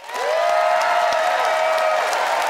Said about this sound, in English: By applause, audience, who agreed with John that the home team talk was something to write home about?